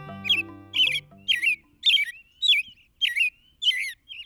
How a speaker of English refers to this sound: These rich, caroled phrases are among the best-loved and most widely heard in North America. This superb song belongs to perhaps our most familiar bird, the American robin.